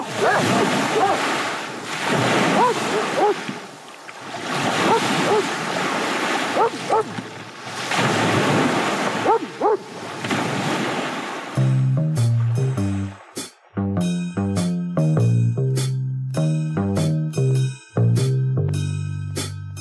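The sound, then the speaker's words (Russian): Sea waves break on a shore in loud, rolling surges, several swells washing in one after another, before a melodic music passage takes over for the last third. “Он стоял неподвижно и смотрел на море.”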